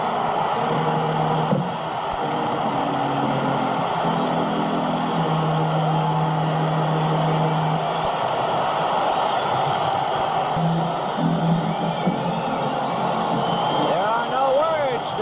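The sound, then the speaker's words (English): A baseball crowd roars and cheers after Fernando Valenzuela's home run in the 1981 season, called by Vin Scully, in a dense, sustained wall of noise, with low droning tones rising and falling beneath the steady din, staying loud throughout. “The sound of a cheering crowd tells it all.”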